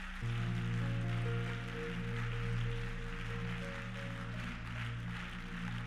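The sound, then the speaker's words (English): A church audience claps hands loudly in a dense, steady wash of applause lasting several seconds, with sustained organ-like chords humming underneath. “And if you're going to preach with me tonight, I want you to clap your hands one more time and as loud as you can.”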